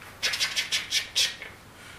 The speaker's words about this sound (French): Qu'est-ce qu'on entend là à ce moment-là? Les cigales, parce que c'est au Moyen-Orient, oui.